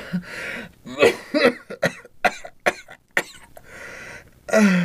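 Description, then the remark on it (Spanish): A series of harsh coughs from a person with a cough and cold, in irregular bursts, several sharp hacking fits separated by brief pauses and raspy breaths, with a final rough cough at the end. “Me agarró una tos y un catarro después del aguacero de anoche.”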